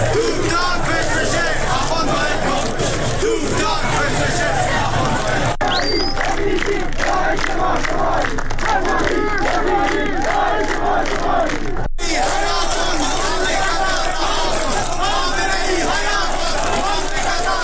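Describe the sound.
A large protest crowd in Zahedan, marching after Friday prayers on the 16th Friday of protests, chants anti-government slogans in unison, including 'we don't want a child-killing government'. Loud rhythmic shouting repeats over a dense roar of many voices, continuing steadily with brief cuts between segments.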